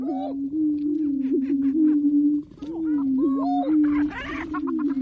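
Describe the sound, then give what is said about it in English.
Male greater prairie chickens displaying at a lek, recorded at dawn by nature recordist Lang Elliott. A steady, low, hollow booming drone runs almost unbroken, overlaid with rising whoops, cackles and short clucking calls from several birds. “Leks are breeding grounds where certain species like these male greater prairie chickens perform display rituals and compete for the affections of females.”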